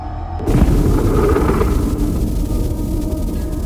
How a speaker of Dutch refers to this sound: En ineens boven een stad, Hawija, verschijnt er een bol van licht. Een geconcentreerde explosie.